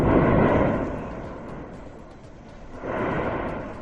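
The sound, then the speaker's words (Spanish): The volcano at Cumbre Vieja on La Palma, in its explosive phase, roars with deep, rumbling blasts: a loud surge that fades, then a second powerful wave of booming noise swelling back up, heavy and sustained, with no voices. “Lo que no remite, todo lo contrario, es el volcán de La Palma”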